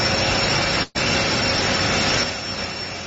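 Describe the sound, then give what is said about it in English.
A loud, steady roar of jet engine noise as a man boards a plane, broken by a brief cut near the start, then easing slightly toward the end. No one speaks. “He's boarding the plane.”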